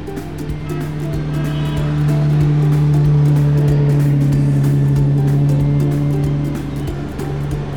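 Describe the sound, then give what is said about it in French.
The engine of a 1954 vintage car brought from Switzerland runs steadily with a low, continuous droning hum that swells slightly in the middle, with no voices over it. “Une voiture qui est de 1954, qui a été extraite de la Suisse, qui s'est retrouvée dans ce pays d'origine, et que j'entretiens au mieux pour essayer de la faire vieillir le plus”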